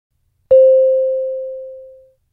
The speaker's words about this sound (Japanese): 二人の会話は問題用紙に示されている順に進み、空欄のところでは次のチャイムが鳴ります。